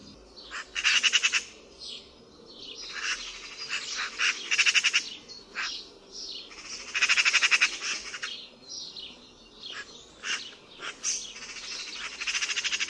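A songbird gives a series of harsh, raspy screeching calls, loud, repeated in bursts with short gaps between them. No one speaks.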